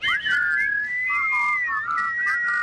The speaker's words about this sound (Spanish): Bueno, ya lo que nos faltaba, un silbido. Hay alguien que está silbando horrible. Mal.